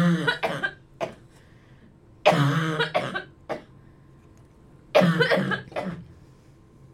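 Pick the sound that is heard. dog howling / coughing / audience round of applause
coughing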